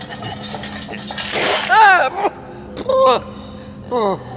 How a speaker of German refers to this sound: Gib der Gefangenen Wasser. Jawohl. Nein, nicht so. Den ganzen Eimer. Wie euer Wunsch.